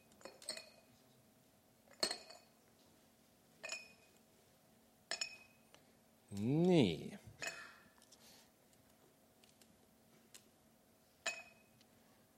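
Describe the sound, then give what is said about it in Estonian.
A series of sharp glassy clinks, about six of them spaced a second or two apart, as small objects are dropped into a second glass jar, with a brief spoken word in the middle. “Ja paneme sisse kõigepealt tähtsad asjad.”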